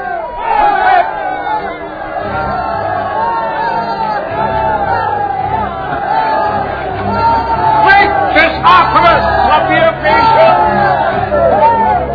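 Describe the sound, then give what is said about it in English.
An angry crowd shouts continuously, many overlapping voices yelling and jeering in a loud, dense roar, with sharper outbursts rising toward the end and a steady low rumble beneath. “When they heard this, they were furious and began shouting.”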